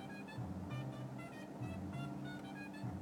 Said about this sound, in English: I'm trapped at this traffic light getting ready to drive into construction. It just never ends.